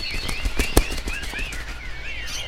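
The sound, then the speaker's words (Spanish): A serere bird's wings flap in a rapid burst of sharp flutters as it is chased away, with thin high chirping calls continuing in the background. “¿puedes ir a sacar ese pájaro?”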